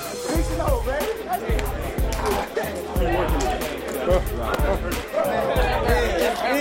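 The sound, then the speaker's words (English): A huge crowd of Kansas City Chiefs fans at Arrowhead Stadium, during an NFL game, roars in a dense, continuous wall of voices, with heavy low thumps pulsing steadily underneath, like drumming or stomping, throughout the whole stretch. “Kansas City Chiefs fans, the loudest stadium in the NFL.”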